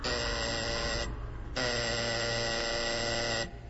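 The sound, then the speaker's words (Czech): A buzzing doorbell rings twice as someone is at the door: a loud, harsh one-second buzz, a short pause, then a longer buzz of about two seconds. No one speaks. “čini mi se da neko zvoni. Da, neko je na vratima.”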